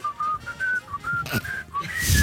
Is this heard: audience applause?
no